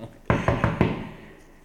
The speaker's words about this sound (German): Und jetzt klopfe ich an.